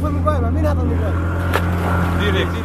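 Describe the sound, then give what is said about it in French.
A steady, droning outboard motor of an inflatable boat hums loudly and continuously, with low throbbing tones, as the boat carries migrants across the Aegean Sea at night; people's voices are faintly heard over the engine noise. “C'est lui qui a démarré le bateau.”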